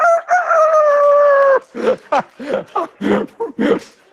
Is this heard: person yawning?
no